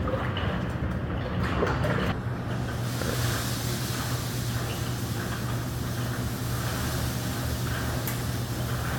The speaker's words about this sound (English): so we use this to stir the grain around. I'm just going to mix what we have in there. Make sure there's no dough balls. It's all well blended.